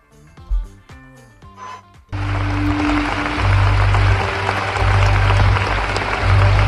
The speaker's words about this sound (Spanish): que hubo algunos problemas de sonido, pero luego se arregló y recibió este aplauso después de la proyección.